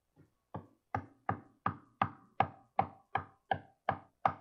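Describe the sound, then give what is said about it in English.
Knocking on a door: about eleven firm raps in a steady, even rhythm, fairly loud, with no voices or other sounds around them. “Behold, I stand at the door and knock.”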